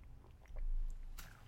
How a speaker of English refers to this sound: Let me take a sip of my coffee before I tell you what happened next.